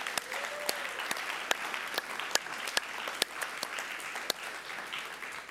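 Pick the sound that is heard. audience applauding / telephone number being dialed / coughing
audience applauding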